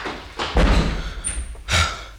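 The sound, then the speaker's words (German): A heavy castle door slams shut with a loud, booming thud, then a second sharp bang follows a moment later, with a brief high squeak between them. “Auch die Tür hat man uns vor der Nase zugeschlagen.”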